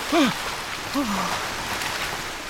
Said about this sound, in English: One day, they have to cross a fast-flowing river.